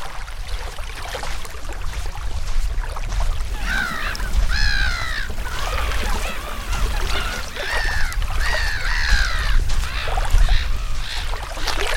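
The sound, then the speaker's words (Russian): Seagulls cry repeatedly in harsh, rising-and-falling calls over a steady wash of small waves lapping against the shore of Lake Razna, with low rumbling water noise throughout and no talking. “На берегу озера Разна под крики чаек и шум небольших волн”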